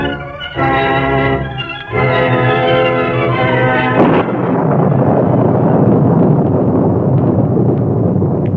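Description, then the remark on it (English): A held, brassy musical chord gives way to a sharp crack of thunder, followed by a loud, steady roar of wind and storm noise that rumbles on without a break: an evening thunderstorm in a Lone Ranger radio drama, with jagged lightning, rain falling in torrents and wind howling across desolate countryside. “Jagged lightning streaked across the evening sky. Rain fell in torrents, and the wind howled across the desolate countryside.”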